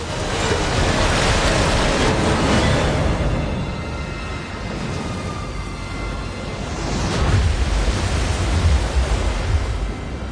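Floodwater crashing through a library's windows, bringing cars with it: a dense, roaring wash of rushing water fills the whole clip, surging loudly at the start, easing slightly midway, then swelling again with a heavy crash near the end; no voices.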